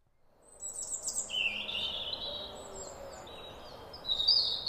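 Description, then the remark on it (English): A robin sings its thin, wistful autumn song, a string of high, sweet warbling phrases rising and falling, with a soft hiss of outdoor ambience beneath and no voices. “The autumn song of the robin is the soundtrack to shortening days, gathering mists and ripening fruit.”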